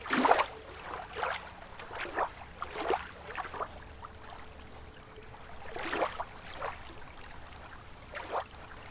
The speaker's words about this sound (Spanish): Oye el suave sonido del agua y siente el aire que acaricia tu piel.